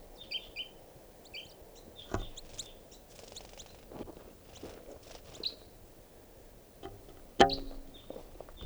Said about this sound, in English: This is one of the birds. It's a juvenile.